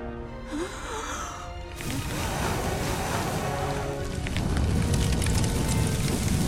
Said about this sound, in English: Glim blows on the sun. Her arms start melting. Wax drips on the rock.